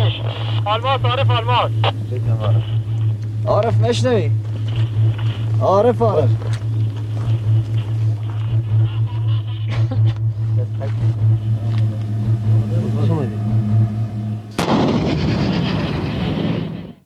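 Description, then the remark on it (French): Voices talk over a steady low engine drone, then a heavy cannon shot, fired by Commander Massoud's men, booms out near the end, its blast rumbling and slowly fading. “Et oui, donc vous entendez ces grands coups de canon, ce sont ceux tirés donc par les hommes du commandant Massoud pendant qu'il leur explique comment arriver justement à contourner ces talibans qui sont parfois juste des petits groupes”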